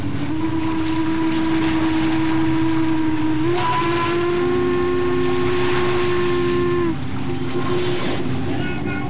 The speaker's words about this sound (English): And from there, they bought tickets and boarded a steamboat headed up the Ohio River.